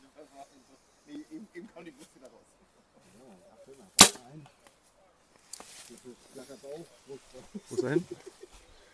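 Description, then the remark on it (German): A single sharp, loud snap of an arrow being released from a bow at a target about 38 metres away, in light wind with the sun slightly from the front, stands out in the middle, with a person talking quietly before and after it; the shot lands high. “Guter Schuss, hoch, vielleicht noch eine 8, könnte gut sein.”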